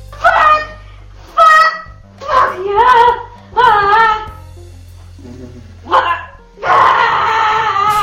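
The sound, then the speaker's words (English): A woman's voice imitates a chicken with a series of loud, squawky clucks in short bursts, ending in one longer, drawn-out squawk. “Did she just go bok bok like a chicken?”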